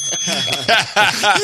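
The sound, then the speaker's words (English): A bright bell tone rings out and lingers for about half a second, mixed with chirpy, voice-like sounds and short bursts that continue after the ring fades. “Yay! I got the bell.”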